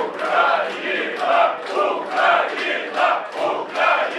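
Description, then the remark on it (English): A large crowd of Ukrainian football fans in a bar in Kyiv roars and cheers for their team after the final whistle of a match lost to Wales, the noise swelling in steady rhythmic surges like a chant, loud and continuous throughout. “Then they cheer.”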